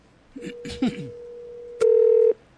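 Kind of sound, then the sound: signal or alarm, telephone keypad dialing tones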